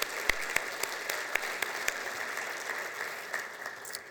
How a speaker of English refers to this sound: So let's give Zions Bank a round of applause for being our title sponsor.